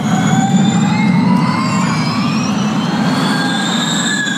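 A loud, high-pitched Formula E electric race car whine climbs steadily in pitch, several layered tones rising together over a constant low rumble, with no one speaking.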